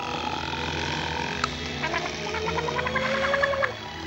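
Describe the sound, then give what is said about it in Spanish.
A single sharp drip as a drop from a tap falls into the mouth of someone sleeping in a kitchen sink, then a run of bubbly, warbling gargles that wobble up and down in pitch for about two seconds over a soft steady hiss. “Una gota del grifo está a punto de caerle en la boca. Al final le cae y hace gorgoritos.”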